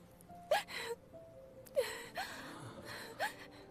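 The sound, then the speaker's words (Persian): Someone sobs with several sharp, shaky gasping breaths and short whimpering wails, spaced irregularly over a few seconds, fairly quiet, with no words spoken. “چطور گریه نکنم؟”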